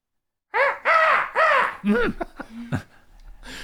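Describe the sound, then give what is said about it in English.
A person imitates a raven's caw with three loud, harsh calls in quick succession, then trails off into shorter, quieter vocal sounds. “I was going to say, somebody send a raven?”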